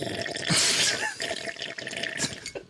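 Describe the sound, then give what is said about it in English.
Water sloshes inside a drinking bottle that still holds a lot of water, in a brief burst of splashing, then a few smaller wet gurgles and drips trail off. “There's so much water left in it. There's like a lot of water in there.”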